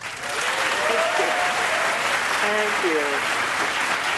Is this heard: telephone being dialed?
no